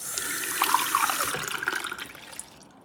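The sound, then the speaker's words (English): Water runs steadily from a tap for a few seconds, a broad hissing splash with faint bright gurgles, then cuts off near the end. No one speaks. “Could I please have some water?”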